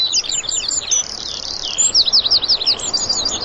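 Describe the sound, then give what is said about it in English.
Continuous high-pitched bird song, rapid chirping trills and warbles that rise and fall without pause, heard outdoors in a large open field within castle walls, with insects buzzing and a gentle background sound of the sea, with no voices. “It sounds corny almost, really, but the buzz of the insects and the call of the birds.”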